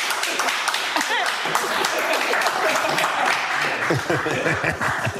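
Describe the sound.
A small group claps steadily for several seconds, a dense patter of hand claps, with some voices and laughter mixed in underneath.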